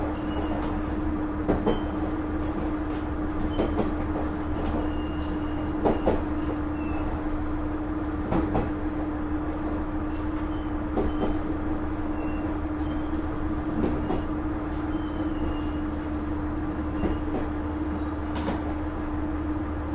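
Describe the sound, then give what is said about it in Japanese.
A train approaching Minami-Yonezawa station in Japan rumbles steadily, heard from inside the carriage, with a constant low drone and periodic clanks and rattles as the wheels pass over rail joints, loud and continuous with no talking. “南米沢では、後ろの車のドアは開きません。前の車の一番前のドアからお降りください。”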